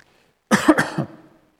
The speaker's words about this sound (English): Do we all want to cough for a moment? Good. I'm just re-oxygenating my brain before we pick up the second point.